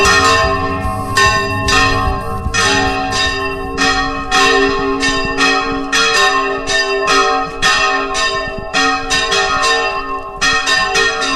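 Church bells in the sierra ring out in a full-circle swinging peal ahead of a procession and blessing of the fields, strikes tumbling over one another in a fast, irregular rhythm with rich lingering overtones, loud, with no voices.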